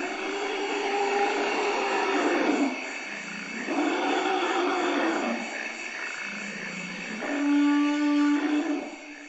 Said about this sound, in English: 11 years ago, NPR sent a team from its Radio Expeditions program deep into the forests of the Central African Republic. Their mission was to record the magnificent sounds of the forest elephant. And here's what they heard.